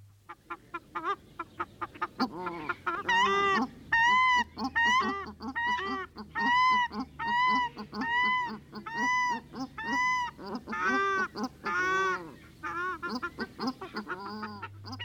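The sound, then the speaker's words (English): Paradise shelduck (pūtangitangi) calls ring out loud: a rapid, rhythmic series of nasal honks that builds, runs steadily for several seconds, then tapers off, with no talking. “This week, e te whanau, we are talking about the pūtangitangi or pūtakitaki, the paradise shell duck.”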